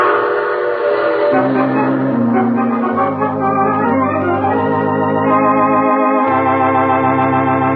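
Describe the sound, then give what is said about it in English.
A train horn blares in long, loud, sustained chords that shift pitch several times, with a steady low rumble of the train moving along the rails underneath. “Oh, you have to get off here. I'm sorry. But I'm sure we'll meet again. I take this same train every week at this time.”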